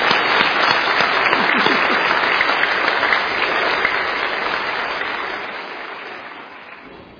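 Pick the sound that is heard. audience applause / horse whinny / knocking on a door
audience applause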